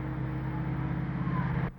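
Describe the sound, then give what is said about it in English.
Cars drive past outside in Dalton, Georgia, a steady low rumble of engines and road noise that holds at an even level for nearly two seconds before cutting off abruptly. No one speaks. “I'll hear the cars go by.”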